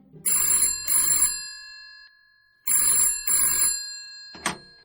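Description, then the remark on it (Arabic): A telephone bell rings in two double bursts, each a bright metallic trill with a long ringing decay, followed by a brief click as if the receiver is lifted. “وكنت عاكفا على حلاقة ذقني حين دق جرس الهاتف.”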